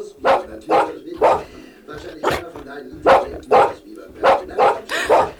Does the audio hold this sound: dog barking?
yes